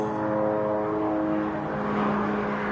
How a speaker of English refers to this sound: And there's a helicopter going over right now because I'm in Las Vegas. Wow. What is he doing? Is he landing on your house? Even I can hear that.